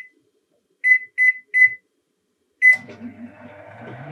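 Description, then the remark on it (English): A microwave oven in a kitchen, heating a chocolate mug pudding for one and a half minutes, gives three quick electronic beeps, pauses, beeps once more, then its fan and turntable hum start up and keep running, fairly loud. “We are not going to listen to the microwave for 1.5 minutes.”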